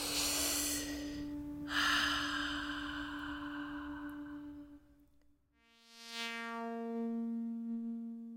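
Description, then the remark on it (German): Loud breathing in long, drawn-out breaths during a breathing exercise, over a steady humming drone, briefly dropping quiet before another slow, swelling breath with a tonal, wheezy edge. “Atmen nicht vergessen.”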